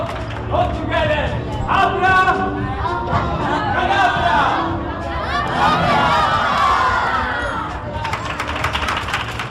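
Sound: children cheering and shouting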